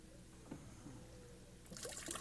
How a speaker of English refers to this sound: It's a recirculating waterfall. That's what it is. Oh, that's beautiful.